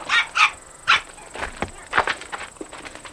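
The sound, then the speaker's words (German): A dog being walked by a woman gives three sharp, quick barks, followed by a string of softer, fainter yips and rustling sounds trailing off. “Da kommt eine Spaziergängerin mit Hund.”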